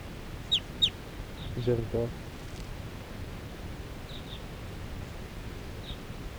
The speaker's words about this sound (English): And the wild birds, four wild birds in the flock are calling. They're gonna take off.